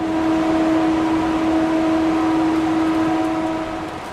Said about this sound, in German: Wir fahren weiter und müssen Ohrstöpsel einsetzen. Der Wagen passiert einen Gang mit den Ventilatoren für die Frischluftversorgung.